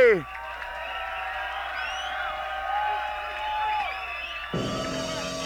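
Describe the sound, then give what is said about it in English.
A crowd cheers and applauds for the DJ in a steady, dense roar, with scattered whoops and shouting voices rising above it. Near the end a louder, harsher burst of noise cuts in. “Round of applause to warm up the DJ inside the ride.”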